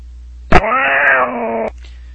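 A cat lets out one long, drawn-out yowling meow, loud, lasting about a second after a brief sharp noise at its start, with no talking.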